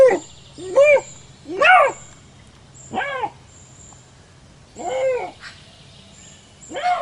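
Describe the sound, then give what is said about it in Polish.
A lynx calls with about six drawn-out, rising-and-falling yowls, harmonic and moaning, spaced unevenly with quiet gaps between, over a faint steady high-pitched hiss. “Sprawdzałem w internecie, czy można znaleźć jakiś ładny odgłos rysia? No, znalazłem coś takiego.”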